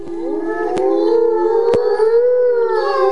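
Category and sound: animal, wolves howling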